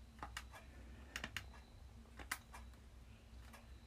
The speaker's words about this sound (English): Damn, I keep clicking the wrong buttons. Just kidding, I was playing Flappy Bird.